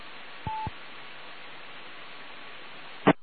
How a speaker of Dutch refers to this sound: Oh, die squelch die komt er door. Even iets terugzetten, zo.